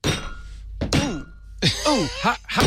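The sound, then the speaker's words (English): Several hard, heavy hammer blows land on something tough, each a sharp thunk with a ringing edge, spaced unevenly, while voices cry out and groan between the strikes. “Turn the hammer over and use the horrible nail puller sign.”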